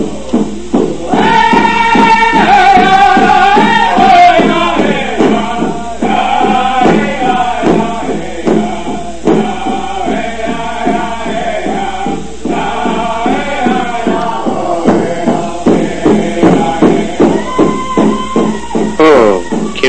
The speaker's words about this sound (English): You are listening to the American Indian Movement's Honoring Song.